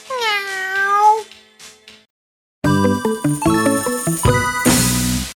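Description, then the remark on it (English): A single drawn-out meow from a cat named Elvis, clear, with a short falling tail, followed after a pause by a bright, tinkling musical jingle. “Hello, cat. What's your name? His name's Elvis.”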